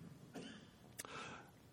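A short cough with a sharp burst, followed by a brief raspy throat sound, alone against a quiet background with no talking.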